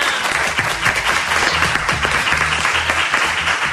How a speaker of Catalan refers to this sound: Un aplaudiment per l'Alba Pijoan.